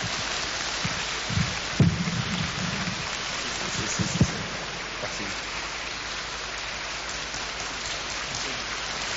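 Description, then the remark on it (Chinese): A crowd at an 80th birthday celebration gathering applauds steadily as a special gift is presented, a dense, even wash of many hands clapping that holds at the same level for the whole stretch, with a few low thumps early on and no voices. “来，我们热烈的掌声”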